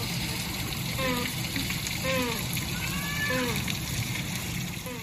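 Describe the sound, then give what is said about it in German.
Humboldt penguins swim in a pool holding about 450 cubic metres of water, with steady, fairly loud splashing and churning, and brief high calls or voices rising and falling over the wash. “Unsere Humboldt-Pinguine. Die schwimmen nämlich in einem Becken mit rund 450 Kubikmetern Wasser, also 450.000 Litern.”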